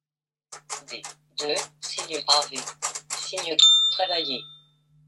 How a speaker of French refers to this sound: Petite sonnette qui est donnée par le système informatique.